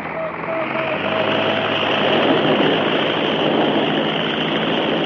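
A loud, steady roar of an early propeller seaplane engine as Glenn H. Curtis takes off from the Pacific Ocean at San Diego, California, on January 26, 1911, swelling slightly as it runs on without a break, with a low droning hum underneath the broad rushing noise.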